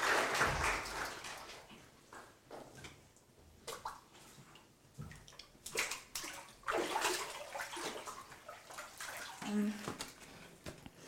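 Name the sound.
water splashing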